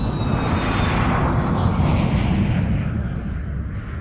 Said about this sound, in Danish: Har du gættet, hvor lyden kommer fra? Det er inden fra en flyvemaskine.